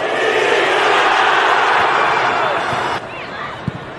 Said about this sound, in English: Every time she kicks it, crowd plays up to the group beautifully, shouting Zika every time she kicks it or has a hand in the game.